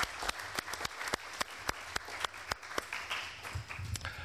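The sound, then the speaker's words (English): Audience applause for a panel of panelists: a steady run of sharp, distinct hand claps over a dense bed of lighter clapping, holding fairly even in loudness for about four seconds. “Please give an applause to our panelists.”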